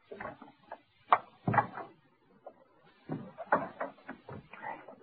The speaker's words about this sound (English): I'll open the door as far as I can. You slip through and grab the damn paper.